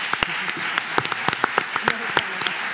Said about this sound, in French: Applaudissements